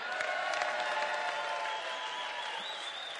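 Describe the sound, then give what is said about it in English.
A church audience claps and cheers steadily for about three seconds, a dense wash of applause with whoops and shouts rising above it, one high voice holding a long cheer near the end. “And just in case he listens to the podcast to check out everything's legit, can you give him a big cheer?”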